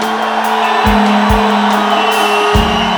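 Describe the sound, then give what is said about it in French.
A large crowd at the Paléo festival roars steadily, with cheers and shouts blending into a dense, loud wash of noise. A low sustained musical tone hums beneath it. “Souviens-toi de ces cris.”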